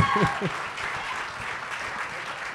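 An audience applauds steadily, a dense, even patter of many hands clapping at a fairly constant level, with a brief voice heard at the very start.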